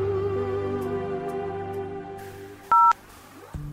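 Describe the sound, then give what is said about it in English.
A single loud, piercing telephone keypad tone beeps briefly after a stretch of steady, droning musical tones, followed by a short low thump at the end. “New messages. I'm calling you.”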